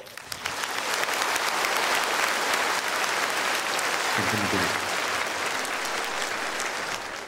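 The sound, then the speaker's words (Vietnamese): Sustained audience applause fills the space, a dense crackle of many hands clapping at steady loudness for several seconds before easing slightly at the end. “một lần nữa xin quý vị dành một tràng pháo tay”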